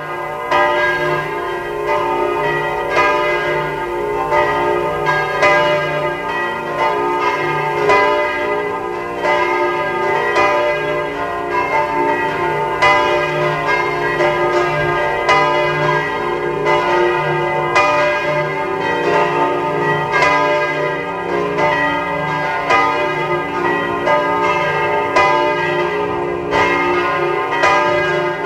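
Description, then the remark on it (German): Several large bells of the Domkirche St. Martin cathedral in Eisenstadt ring together at 12 noon in a dense, continuous peal, their overlapping strikes and long resonant hum filling the air at a steady, loud level with no voices. “Sie hören die Glocken der Domkirche zu St. Martin in Eisenstadt.”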